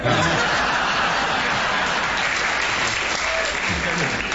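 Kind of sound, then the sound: crowd, audience round of applause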